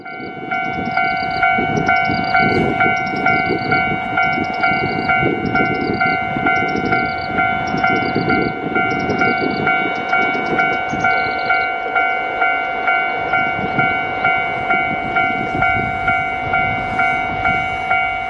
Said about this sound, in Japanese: 場所はですね、釧路駅出て釧路川渡ります、はい、釧路川橋梁、で橋渡ったらすぐ踏切があるんですけど、はい、そこでちょっとカメラをちょっと構えて撮りましたんで、警報音が鳴り始めてわーっと通過していくみたいなような、はい、まあ、そういうドロッコ号の音をちょっと聞いていただきたいと思います。